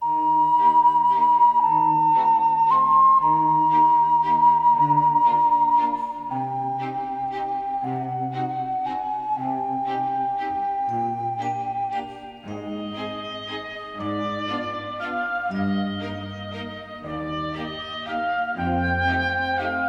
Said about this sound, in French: mais écoutez la manière dont par exemple il emprunte directement à la fois à Korsakov et à Ravel dans le morceau qu'il écrit pour Kiki la petite sorcière.